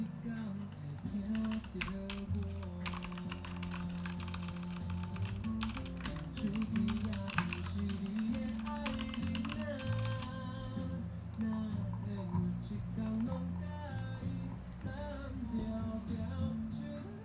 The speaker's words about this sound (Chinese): 现在把声音的部分、音乐的部分先关小声，那我们再来试试看，就是，包括说话的声音，还有键盘敲击的声音，这个部分。